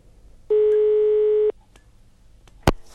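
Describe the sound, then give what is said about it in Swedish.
A single steady, buzzy telephone ringing tone lasts about a second over a phone line, followed by a pause and then a sharp click, as if the call is answered. The call is placed from Läns och Riksnytt to the winner of a contest. “Så vi ringer upp”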